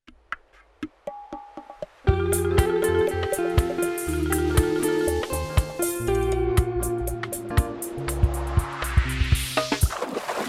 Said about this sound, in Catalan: ruixadeta d'aigua per refrescar les zones del Mil Moments Musicals